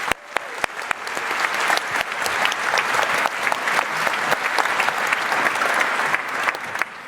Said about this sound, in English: So give an applause, please.